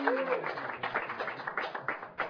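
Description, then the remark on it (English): A short burst of light, scattered sympathy applause from a small group after a contestant's incorrect answer, the claps uneven and sparse, with a brief voiced sound at the start. “A little sympathy applause.”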